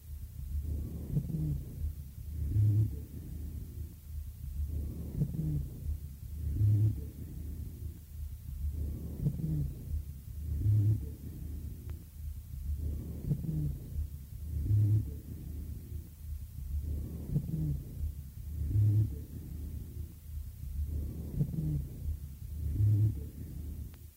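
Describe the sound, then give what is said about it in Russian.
Rough, harsh breathing heard through a stethoscope, recorded from a patient with chronic obstructive bronchitis in exacerbation, repeating in steady cycles about every four seconds, with low, droning dry wheezes and high-pitched whistling dry wheezes on each breath and no talking. “На фоне жесткого дыхания вы услышите не только сухие басовые, но и высокочастотные сухие хрипы, напоминающие свист.”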